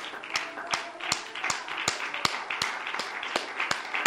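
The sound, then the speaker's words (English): An audience claps to the Lord together in a steady rhythm, with sharp, evenly spaced beats standing out over a dense, continuous wash of scattered clapping and crowd noise. “In the name of Jesus, would you clap to the Lord?”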